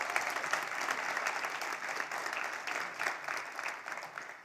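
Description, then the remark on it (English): Steady applause from an audience during a sermon, a dense wash of many hands clapping at once, holding a fairly even level throughout with no talking over it. “You can clap at that.”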